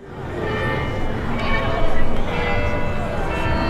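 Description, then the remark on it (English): Bells chime continuously from the new Montgomery County Courthouse clock tower in Crawfordsville during its dedication on a scorching hot day, their overlapping tones ringing and sustaining without a break, heard outdoors over a steady wash of background noise and faint voices. “Bells chimed from the Montgomery County Courthouse clock tower Sunday for the first time since World War II.”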